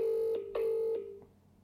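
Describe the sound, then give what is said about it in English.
A steady electronic ringing tone from a phone line, sounding in a few short pulses before trailing off, clear, with no one speaking. “Here's Willie, look, ringing.”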